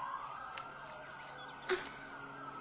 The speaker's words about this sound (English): I can't think with all these sirens.